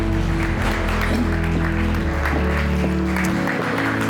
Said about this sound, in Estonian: Nii et anname neile ühe suure aplausi.